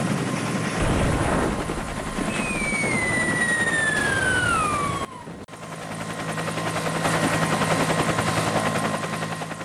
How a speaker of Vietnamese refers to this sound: Một số thương binh còn đủ sức đã đu càng trực thăng. Người chậm hơn, yếu hơn lại nắm lấy cổ chân đồng đội. Trực thăng bốc lên, cùng với chiếc thang người đong đưa.